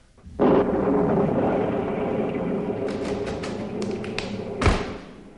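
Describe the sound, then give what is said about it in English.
A loud storm sets in abruptly at night, a dense roar of rain and wind with a few sharp crackles and one heavy thunder-like boom near the end. No voices are heard. “Still more quickies. The storm.”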